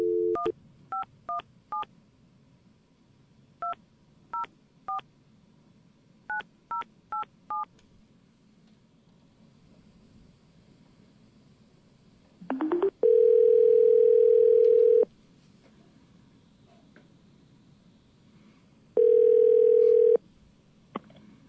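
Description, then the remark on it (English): A phone number is punched in with a quick series of touch-tone beeps in short clusters, then a loud, steady ringing tone sounds twice with a long pause between rings as a radio host calls a guest live on air. No one speaks. “All right, let's get this guy on the phone.”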